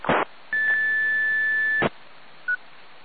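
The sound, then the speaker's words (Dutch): A steady high-pitched electronic beep holds for over a second, framed by short bursts of static, then a brief faint blip follows; no one speaks. “ik hoor alleen een pieptoontje en voor de rest niks.”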